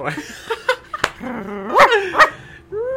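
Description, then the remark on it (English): A voice imitates a chihuahua, letting out several sharp, high-pitched yips and little barks in an uneven burst, fairly loud, with a rising whine at the end. “But you had like a chihuahua. I like kind my of bark. Little chihuahua that.”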